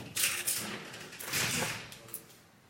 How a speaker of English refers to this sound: You want to open the right door?